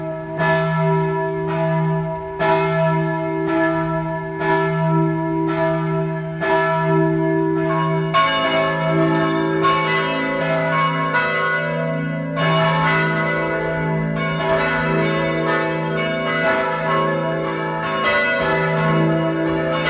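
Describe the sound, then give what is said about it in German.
The bells of the parish church of St. Michael in Bad Eisenkappel, Carinthia, ring at 12 noon. Several bells peal together in a steady, overlapping rhythm, loud and resonant with long ringing tones, and a deeper bell joins partway through to thicken the sound. No voices are heard. “Es ist 12 Uhr. Sie hören die Glocken der Pfarrkirche St. Michael in Bad Eisenkappel in Kärnten.”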